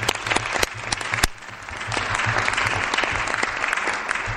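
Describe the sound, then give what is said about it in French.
A group of people at a municipal council meeting clapping steadily to congratulate new grandparents, a dense patter of many hands with a few sharper individual claps standing out, sustained at a fairly even loudness for several seconds. “Voilà, on peut les applaudir.”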